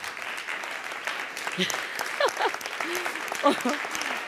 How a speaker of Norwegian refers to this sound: Bare det har jo vært et stående ovasjoner, altså stående applaus, ikke sant?